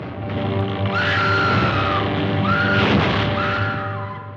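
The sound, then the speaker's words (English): Fay Wray screams shrilly three times in quick succession in the 1933 film King Kong. Each cry is a long wavering shriek over a noisy, hissing old film soundtrack with a steady low hum. “And the original Scream Queen, Faye Ray, from King Kong way back in 1933.”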